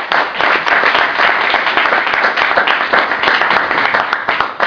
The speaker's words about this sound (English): One thing that I want to acknowledge today that I think we all owe a round of applause to the people of Oakland is today is the 1 year anniversary of the arrest of Yohannes Mezo. So can y'all clap it up?